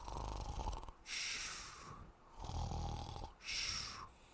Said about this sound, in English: Soon, the cave reverberated with his snores.